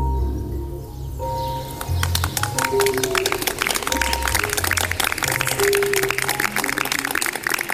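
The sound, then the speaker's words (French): A dense outdoor bird chorus in the early morning, with many overlapping chirps and calls, steady, along with low cooing sounds like pigeons or doves underneath. “parce qu'on travaille avec la nature, les oiseaux, et ce silence, ce calme particulier qu'il y a le matin, ça rend l'expérience assez magique, je dois dire, très agréable.”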